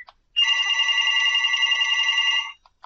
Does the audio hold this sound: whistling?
no